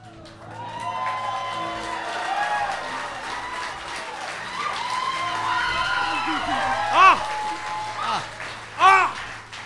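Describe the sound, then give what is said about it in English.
Loud, excited voices ring out amid a noisy crowd, with a couple of sharp shouts near the end. “Such yelling! What's the matter? You can't walk over.”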